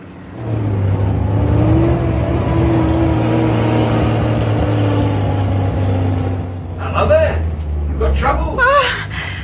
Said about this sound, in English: It's a British army lorry. It could have been captured.